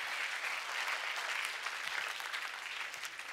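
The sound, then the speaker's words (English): A crowd claps steadily as Champ exits the stage during a sermon, a dense wash of many hands at a constant, fairly loud level that fills the whole few seconds without any voices standing out. “Give him a round of applause as he exits the stage.”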